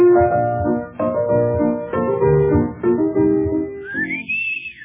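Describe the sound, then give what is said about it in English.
Someone whistles Tales from the Vienna Woods, a waltz by Johann Strauss, in steady, sustained notes over a rich, resonant background, finishing with a high sliding note that rises and falls. “I didn't sing it. I whistled it.”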